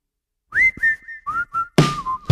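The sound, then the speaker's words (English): Someone whistles a short, sweet melody, a few clear tonal phrases that glide between notes, ending with a louder, breathier passage. No one speaks. “When he whistling his sweet little song, you better don't move.”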